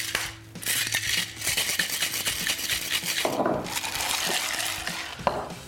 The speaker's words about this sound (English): Then I'm going to add 30 ml of Slingsby Gin and 20 ml of Liquor 43. I'm going to top this off with a little bit of ice. Give it a cheeky shake.